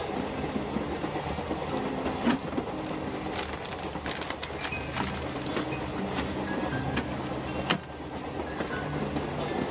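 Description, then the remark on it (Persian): A passenger train bound for Mashhad rolls slowly and steadily along the rails past trees, with a continuous rumbling drone and repeated sharp clicks from the wheels over the track joints, heard from inside. “ما تا حرم نمیریم، ما تا مشهد. این قطار تا مشهد.”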